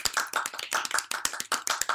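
Soft, quick applause from a few hands, a dense patter of light claps with no voices, kept low and gentle throughout.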